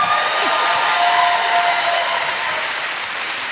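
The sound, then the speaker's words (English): Steady audience applause at the 6th and I Synagogue for NPR writer and editor Stephen Thompson fills the whole stretch, a dense wash of many hands clapping at an even loudness with faint cheering mixed in and no voices on top. “I am a writer and editor who is pausing for applause.”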